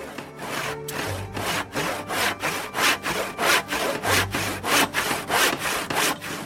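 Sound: sawing wood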